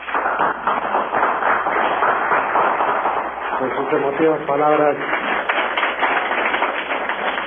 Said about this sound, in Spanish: recibo un aplauso también de aquí del auditorio del Distrito Federal.